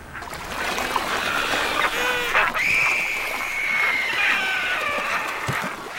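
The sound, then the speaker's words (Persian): A dense chorus of wandering albatross calls from a colony of gathered seabirds as a wandering albatross arrives, with overlapping squawks and a drawn-out, wavering high cry standing out in the middle, over steady wind-like background noise. “یک آلپاتروس سرگردان آخرین کسی است که از راه می رسد.”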